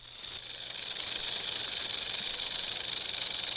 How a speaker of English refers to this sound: That was a rattlesnake rattle.